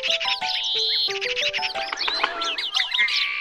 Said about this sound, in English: aren't the birds fun?